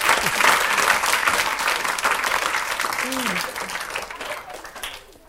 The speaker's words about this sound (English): Can we have a round of applause for the pennies on the board? We like doing that.